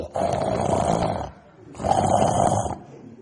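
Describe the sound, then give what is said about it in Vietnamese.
Two loud, rasping snores come close together from a person dozing off during a meditation retreat, each a long rough breath of about a second with a short pause between them, with no talking. “Cái lúc mà tôi nhớ lại, tôi rất vui mừng tại cái gì rất đặc biệt, tại vì tôi thấy 7 ngày rồi tôi cố ý để mấy người muốn ngủ gục tôi cho ngủ gục, ngủ ngáy khô hồ hồ rồ rồ rồ vậy.”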